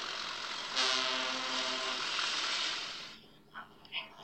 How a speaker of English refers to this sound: Sometimes they need to warn people they're coming. So steam engines blow their whistles. And diesel engines sound their electric horns.